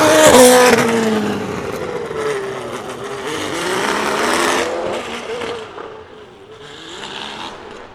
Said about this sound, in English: Cars are going to be rushing past me, and I'm actually just adjusting my settings feverishly.